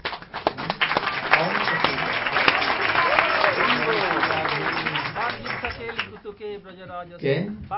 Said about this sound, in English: Playing with Radhika and all Sakhi. Krishna defeated, Radhika defeated Krishna. And all Sakhis were clapping.